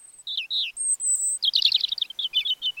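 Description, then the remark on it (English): A European robin, a migratory songbird, sings alone: thin, high whistled notes mixed with quick, tumbling twittery phrases. The bright, varied song runs continuously for a few seconds. “While a bird's eye view lets a migratory songbird like this European robin keep track of important landmarks along its route, a special protein in its eyes might let it see Earth's magnetic field.”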